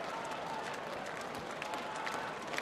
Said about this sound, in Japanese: 今西日を正面に受けながらスターター、スタートカーへ、我慢できないといった感じ、手拍子が湧き起こっています。中京競馬場、これから第11レース G1 チャンピオンズカップのファンファーレを迎えます。